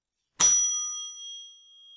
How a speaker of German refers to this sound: Ich schlage die Glocke an und dann bitte halten Sie an.